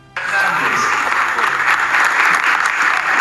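Sustained audience applause begins abruptly after a brief quiet moment and continues steadily at full loudness, a dense wash of many hands clapping with no distinct individual claps standing out.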